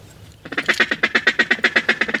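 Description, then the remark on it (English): A duck call blows a fast, steady run of about a dozen raspy quacks, loud, after a brief quiet start, with no talking, sounded to call to a group of ducks that has been spotted. “Now I'm looking around to see if I can see any ducks and kind of get an idea of what they're doing and what call to use when I see them. We don't just call to call. We call when we see a group of ducks.”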